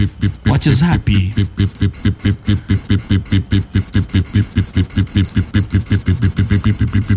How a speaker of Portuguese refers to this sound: Bomba relógio.